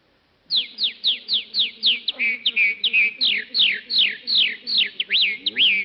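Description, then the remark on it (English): A voice imitates a red-winged blackbird: a rapid run of about fifteen bright, whistled chirps that sweep downward in quick succession, loud, with a faint low vocal hum beneath them. “Red-winged blackbird.”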